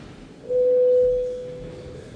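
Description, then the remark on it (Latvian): A single steady electronic signal tone, a parliament voting bell rung before a vote, sounds clearly for about a second and then fades out over a quiet background. No one speaks. “Paldies, lūdzu zvanam.”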